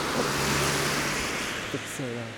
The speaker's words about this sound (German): Ein Auto nach dem anderen fährt hier vorbei. Es sind so viele, dass ich sie gar nicht mehr zählen kann. Aber niemand hält an.